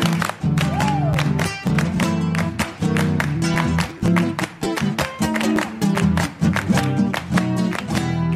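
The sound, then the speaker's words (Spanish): Rhythmic hand clapping keeps a steady, driving beat, sharp claps cutting through a loud music backing with sustained low tones and a brief sliding pitch. “¡Palmas!”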